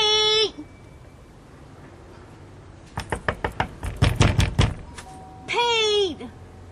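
A quick run of about ten sharp, hollow knocks on a door, growing louder midway, framed by short ringing tonal sounds just before and just after.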